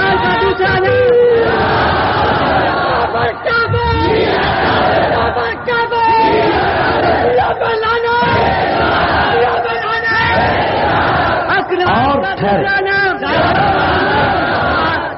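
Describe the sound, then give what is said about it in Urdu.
A large crowd at a speech chants slogans in loud, unified bursts, voices rising and falling in a steady repeated rhythm with barely any pause between calls. “اور زیادہ نعرے بھی لگانے کی ضرورت نہیں ہے, عملی قوت پر یقین رکھیں.”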